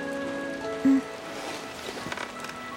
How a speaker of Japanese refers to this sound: もう少し寝ていてもいいよ。雨が止んだら起こしてあげる。